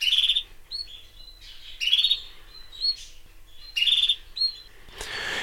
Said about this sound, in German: Oh, jetzt habe ich hier gerade einen Geschwader Kanarienvögel zu Besuch in meinem Zimmer.